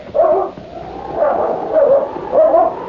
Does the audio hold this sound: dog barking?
yes